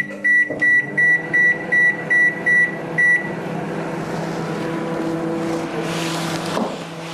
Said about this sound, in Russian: Все, мы перелили в силиконовую форму и ставим в микроволновку. И накрываем специальной формочкой для микроволновки. Выставляем время 7 минут.